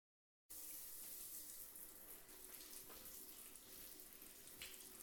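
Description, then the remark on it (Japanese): After a moment of silence, steady running water hisses continuously, like a tap pouring, as skin is washed with a foamy sponge and hand, starting at the neck, in a hotel bathroom, with faint soft scrubbing mixed in and no voices. “じゃあ、首筋から泡立てたスポンジと手で、洗いながら触れていくよ。”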